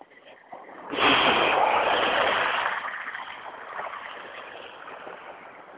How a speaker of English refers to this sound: Yeah. There's still water in the ditches.